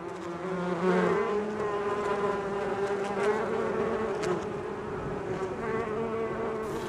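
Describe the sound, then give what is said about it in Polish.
A steady, dense drone of many bees buzzing together, continuous for the whole stretch, with the hum wavering slightly in pitch as individual insects pass. “Pszczoły to w ogóle są tacy strażacy wśród owadów.”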